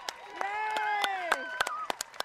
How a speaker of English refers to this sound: There's nothing more magic than this finish line, really, I tell you. And the amount of cheers you can hear from the spectators is simply amazing.